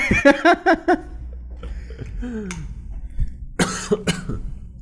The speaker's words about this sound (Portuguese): Se eu não responder de imediato alguma pergunta, alguma coisa assim, é porque eu mutei pra tossir.